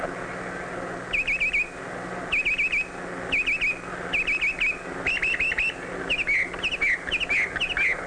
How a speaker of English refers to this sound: The male redwing selects the nesting area and sings sweetly to persuade a female redwing that he'll be a good husband and a thoughtful provider, and that his chosen pond will be a good place to raise a family.